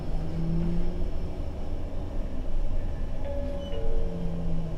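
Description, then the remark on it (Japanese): Steady low rumble from inside a moving Toei city bus in Tokyo, running via Funabori Station and Kojima to Nishi-Kasai Station, a continuous engine drone with faint whining tones rising and fading over it, fairly loud, no voices. “本日も都営バスをご利用いただき、ありがとうございます。このバスは、船堀駅前、小島経由、西葛西駅前行きでございます。”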